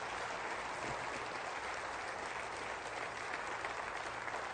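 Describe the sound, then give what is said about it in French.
An audience applauds steadily what God can do through them all, a dense wash of many hands clapping at an even level throughout with no pauses or voices standing out. “Voulez-vous applaudir avec moi ce que Dieu peut faire à travers nous tous?”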